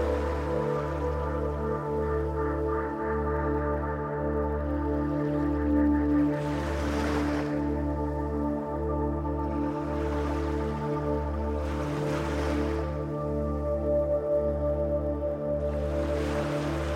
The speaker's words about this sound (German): dann verabschiedest du dich von dem Ozean. Von dem endlos weiten Ozean.